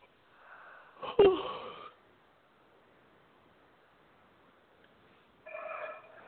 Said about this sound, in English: Oh, now you got me yawning. Okay. little release for both of us.